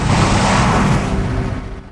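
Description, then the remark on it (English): A police car speeds past: a loud, rushing engine-and-tire roar that starts at full strength and gradually fades over about two seconds, with no voices. “Another cop car speeds past.”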